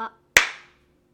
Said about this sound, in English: Oh, the slap.